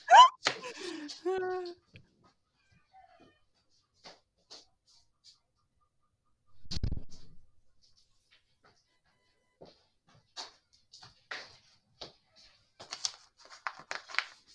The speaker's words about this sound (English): can you hear my chickens?